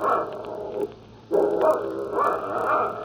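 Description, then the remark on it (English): A dog barks loudly in two sustained bursts, a short one, a brief pause, then a longer run of rough, continuous barking, with no one talking. “Don't you shut that dog up.”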